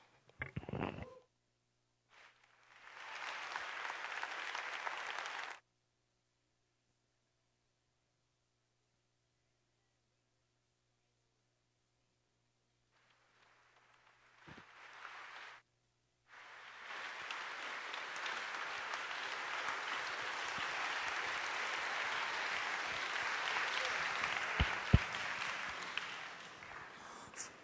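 Audience applause in bursts: a short round of clapping, a long silence, a brief smattering, then a loud sustained ovation of many hands that fills the rest of the room.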